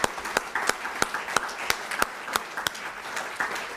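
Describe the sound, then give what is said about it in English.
A crowd in an Alaska legislative body applauds Alaskans who helped open ANWR, a dense wash of clapping with sharper individual claps standing out in a fairly steady rhythm, holding at an even, moderate level with no voices. “I want to salute you with a round of applause for a job well done.”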